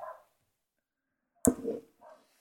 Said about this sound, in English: Sounds like your dog does. My dog disagrees with everything. He's a Westie, so he's genetically Scottish, and he's from the northeast of England.